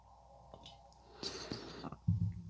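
A quiet slurping sip of coffee from a cup in the morning, a breathy hiss lasting under a second, followed by a soft low clunk or swallow. No one speaks.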